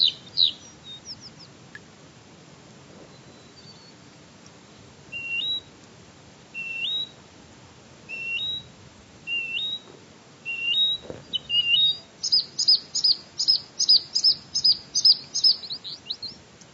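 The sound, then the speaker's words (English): Bluethroats, Smith's longspurs, redpolls and sparrows sing on treeless tundra at Sunset Pass, where they nest on the ground: a few sweet up-slurred whistles repeat at intervals, then a rapid series of bright chirps builds to a lively chorus near the end. “These are blue throats, Smith's longspurs, red poles, and sparrows.”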